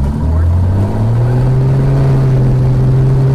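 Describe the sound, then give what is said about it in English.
A small airplane engine at Hartford-Brainerd Airport, Connecticut, revs up to full throttle on the runway center line before takeoff, a loud, steady droning roar whose low pitch climbs and then holds, with harmonic overtones stacked above it for the whole stretch. “The revving up, the throttle going up.”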